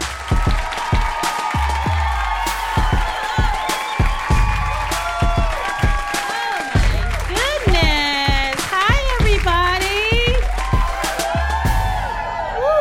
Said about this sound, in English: We are in here tonight. Yeah, you guys are a hot crowd. Clap it up for yourselves for coming out. Hot crowd. Clap it up for yourselves for being so sexy.